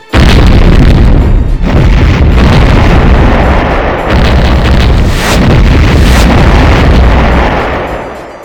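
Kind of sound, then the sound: sound effect, explosion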